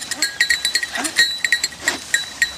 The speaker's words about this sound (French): Regarde, Fardoche, une chèvre. Ben oui, une chèvre.